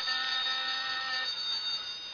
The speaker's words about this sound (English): This phone's ringing.